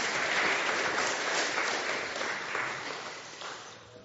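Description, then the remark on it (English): A crowd claps steadily for about four seconds, a dense, even patter of many hands, slowly tapering off toward the end. “They're still nervous, but I think they should have a round of applause.”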